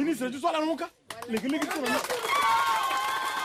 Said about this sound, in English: These villagers in Nanagribizi, a district still plagued by sectarian violence, applaud this speech from a Touadéra campaign worker.